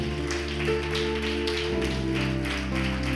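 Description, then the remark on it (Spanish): Congregation applause for the Lord during a church service, a dense, steady patter of many hands clapping over sustained organ-like keyboard chords, holding at an even level for the whole stretch with no voices. “Dele un fuerte aplauso, Señor.”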